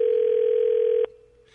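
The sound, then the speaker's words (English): A single loud, steady telephone ringing tone heard down the line while a guest expert is being called lasts about a second, then cuts off abruptly, leaving a faint hum and quiet line noise. “Takes him a while to get to the phone, obviously.”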